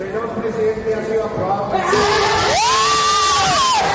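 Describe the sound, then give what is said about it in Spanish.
A crowd's murmur in the Congress of Colombia suddenly erupts into loud, sustained cheering and shouting of joy as bullfighting is banned, with one rising, held voice standing out. The sound is harsh and distorted, clipped and saturated from the burst onward. “Perdón por el sonido saturado, pero fue debido a la explosión de alegría.”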